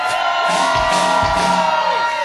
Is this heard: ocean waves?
no